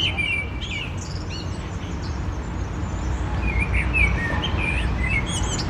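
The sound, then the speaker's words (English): A blackbird sings in January, recorded on a mobile phone on the grounds of Orty, in scattered, fluting phrases over a steady rush of outdoor background noise, with a few higher chirps toward the end. No one speaks. “isn't it amazing to hear a blackbird singing in January?”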